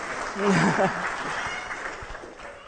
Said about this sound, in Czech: děkuju vám, už se můžete posadit, zatleskejte jim prosím, že to vydrželi.